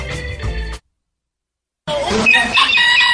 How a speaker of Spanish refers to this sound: Ahí está. Cristo viene. Está anunciando el gallo la próxima venida de Jesús.